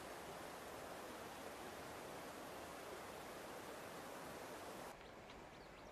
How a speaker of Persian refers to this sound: دوروبر روستا پر از آبشارهای کوچیک و بزرگه. معروف‌ترینشون هم آبشار باغ شیخ عمره.